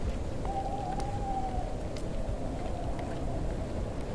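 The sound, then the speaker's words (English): Steady rain falls at night over a graveyard, a dense continuous hiss with scattered drops pattering, while a faint tonal whine drifts in briefly near the start. “It's raining and dark, so I decided to cut through the graveyard to get home faster.”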